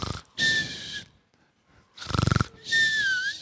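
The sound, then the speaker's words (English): Voices imitate snoring: two rounds of exaggerated snorts, each a rough, rattling inhale followed by a high, whistling exhale, with a short quiet gap between them. Loud. “Anyone do the snore?”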